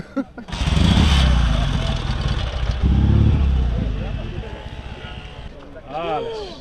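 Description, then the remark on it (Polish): The engine of a Soviet-made military police motorcycle, produced in 1985, roars loud and rough, surging twice before easing off; a voice speaks briefly as the engine noise fades at the end. “To jest motocykl wojskowy produkcji radzieckiej, jeszcze z dawnych czasów.”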